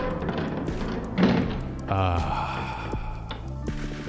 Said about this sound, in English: It appears the vault door has shut behind us, but that's okay.